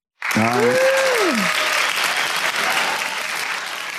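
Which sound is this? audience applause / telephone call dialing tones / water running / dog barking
audience applause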